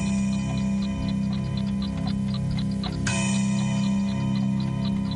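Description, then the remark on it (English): A handmade clock chimes with a sustained, ringing metallic tone while a steady mechanical ticking continues underneath; a fresh strike of the chime rings out about midway through. “Finally, I stopped working in the store and only made clocks. You're very skillful. This one is very beautiful. Yes. Listen to it chime.”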